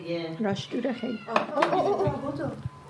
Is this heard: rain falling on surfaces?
no